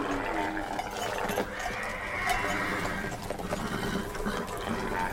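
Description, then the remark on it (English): Horses whinny and snort amid a busy clatter of hooves, with rattling, shuffling movement throughout; the sound is dense, with no one speaking. “What's the matter with these animals?”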